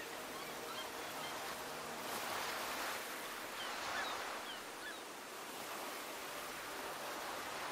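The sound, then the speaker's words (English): Steady, hissing ocean surf rolls in and recedes on the shore, with gentle swells rising and fading every few seconds. No voices, just the continuous, even wash of sea water. “beyond the waves to the relative calmness of the sea.”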